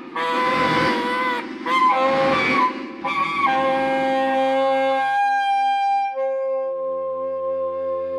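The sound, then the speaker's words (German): Loud, harsh braying of a donkey in a stable, in a run of rasping, honking bursts with short gasps between, giving way to several seconds of steady, held tones. No one speaks. “Mit so einem schreienden Esel in einem Stall, das hält ja der stärkste Gaul nicht aus.”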